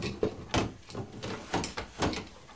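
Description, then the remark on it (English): A drawer is pulled open with a series of woody knocks and rattling contents as someone searches it for a yellow spanner, several sharp bumps over a couple of seconds, with no one speaking. “If it's not in that drawer, it's because somebody hasn't put it back in the right place.”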